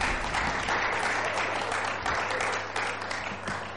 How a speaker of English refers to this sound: Thank you. Let's give her a big round of applause.